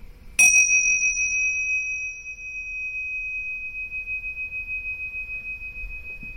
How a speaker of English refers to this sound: And when you hear the bell, you can open your eyes. We'll end the meditation.